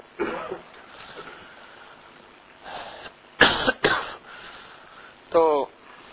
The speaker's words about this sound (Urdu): کھانسنے والے حضرات مجبوراً بیچاروں کو مجبوری ہے، کھانستے ہیں تو پھر وہ آواز دب جاتی ہے، پھر مجھے اونچا بولنا پڑتا ہے، تھوڑی سی آواز اونچی کر دو.